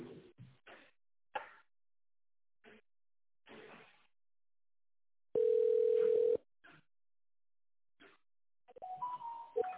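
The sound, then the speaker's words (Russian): A single steady telephone ringback tone sounds for about a second as a call to the company Robotbaza is put through to its managers, loud and clear, surrounded by brief scattered clicks and short muffled bursts on the line, with a faint tonal snippet near the end. “Звонок уже идет нашим менеджерам. Ожидайте, пожалуйста.”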